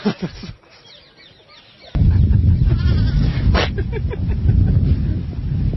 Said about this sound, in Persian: وقتی حیوانات و پرندگان دست به دست هم میدن تا تو نتونی یه پلاتو ضبط کنی.